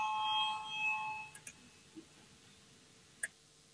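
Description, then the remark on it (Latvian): An electronic bell rings with a steady, bright tone for about a second and then fades. A few faint, scattered clicks follow in an otherwise quiet setting. It is the voting bell of the Latvian Saeima, rung to call a vote on a proposal submitted by Minister Pūce. “Paldies, lūdzu zvanu, balsosim par pirmo varam ministra Pūces iesniegto priekšlikumu.”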